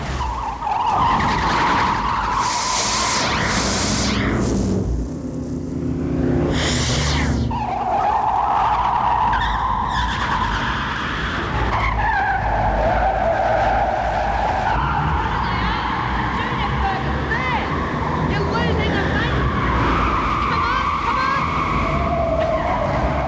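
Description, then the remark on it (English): A car skids and spins out of control, its tyres smoking and squealing in long wavering screeches with engine roar, loud for over twenty seconds, briefly broken by a rush of noise. “loses control of the car in a spin”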